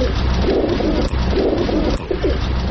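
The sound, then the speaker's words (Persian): A dense chorus of pigeons cooing continuously, many soft overlapping throaty calls forming a steady murmur with no voices. “مردم افغانستان در ارتباط به کبوتر تعبیرهای مختلف دارند.”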